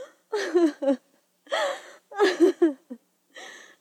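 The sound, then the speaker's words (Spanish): A woman sobs alone in her room in several broken bursts, wavering voiced wails mixed with breathy gasps and short pauses between them, with no words spoken. “Cuando al fin estuvo sola en su cuarto, puso la quena a un lado y rompió en un llanto incontenible, pensando en su pastor.”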